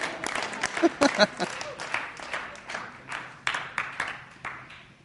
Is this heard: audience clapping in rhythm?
yes